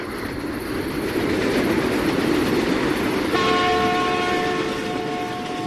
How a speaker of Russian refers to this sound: И в другую сторону, сверкая огнями, с громом пронесся еще один скорый поезд.